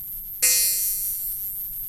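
A single synthesized bell tone from a small synth with 200 hertz of frequency modulation strikes sharply with a bright, metallic, inharmonic shimmer, then sustains steadily and evenly, ringing on alone without fading much.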